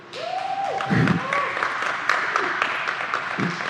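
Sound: audience applause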